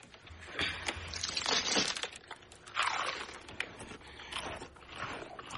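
Loud crunching as someone chews a crunchy cereal treat, with repeated irregular bursts of crackling and grinding over several seconds and no talking.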